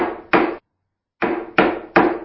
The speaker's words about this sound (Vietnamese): Giữ chặt cửa, tôi gõ tiếp lần nữa.